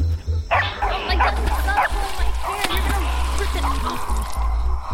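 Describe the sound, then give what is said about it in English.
Lion dogs bark in short repeated bursts, forcing a creature back, over a steady, rumbling background din, with indistinct vocal sounds mixed in; the barking comes in quick succession at moderate loudness. “It's like when they bark, it forces the creature back.”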